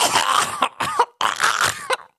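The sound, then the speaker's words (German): Two loud bursts of coughing muffled through a shirt held over the mouth, each a quick run of harsh hacks, separated by a brief pause, with no talking. “kennst du den Trick, dass man sein Shirt vor den Mund macht und dann klingt das ungefähr so, ich huste jetzt mal ganz laut, du wirst es aber nicht hören, okay?”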